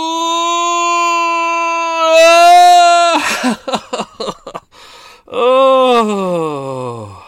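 A long, loud drawn-out yawn from one person, voiced and rising into a strained peak, then a few breathy catches before a second groaning, falling exhale.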